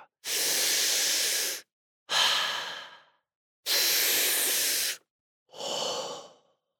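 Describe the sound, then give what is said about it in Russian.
Two slow, deep breath cycles: each long, steady airy inhale is followed by a shorter, fading exhale, with brief silences between. No talking. “Не забывайте, конечно, дышать глубоко.”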